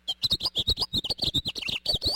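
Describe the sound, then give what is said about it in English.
A house finch sings from a street tree, a fast, jumbled warble of many short, bright notes running together for a couple of seconds, fairly loud, with no one talking. “Or hear a house finch belting it out from a street tree.”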